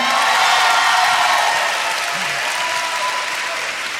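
Sustained audience applause at Sixth and I Synagogue as NPR writer and editor Stephen Thompson is introduced on a panel, a dense crackling wash of many hands clapping at a steady level, tapering only slightly toward the end with no voices over it.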